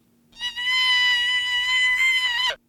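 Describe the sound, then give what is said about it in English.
A single sustained deer call, raised with software from 170 hertz to an average of about 900 hertz, holds one steady high bleating tone with bright stacked harmonics for about two seconds, loud and alone, ending abruptly. “So we raised the pitch from 170 hertz up to an average of about 900 hertz.”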